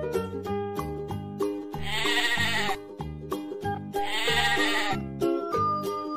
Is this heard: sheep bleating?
yes